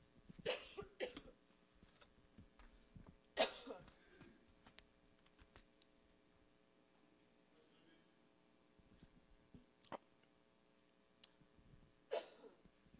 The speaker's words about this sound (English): I'm going to cough, so just one second.